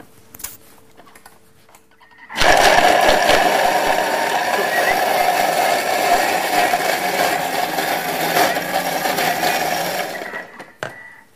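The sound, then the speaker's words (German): A blender mixing smoothie ingredients starts abruptly and runs loudly for about eight seconds, a steady whirring roar with a gritty churning texture, then cuts off, leaving a brief quiet tail. “Einfach alle Zutaten zusammen, einmal durch den Mixer durch.”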